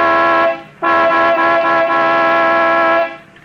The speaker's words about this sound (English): All right. I'll give it the horn. It don't budge.